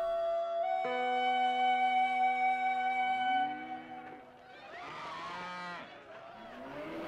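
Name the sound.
cow mooing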